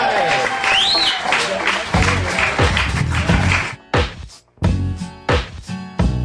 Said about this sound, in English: But everyone, how about a round of applause? Hey, there you go.